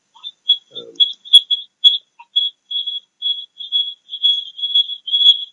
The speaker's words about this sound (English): Somebody's whistling. Oh, that stopped.